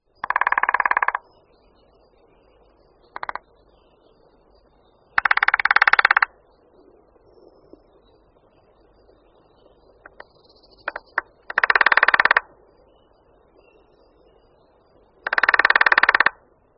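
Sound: lesser spotted woodpecker drumming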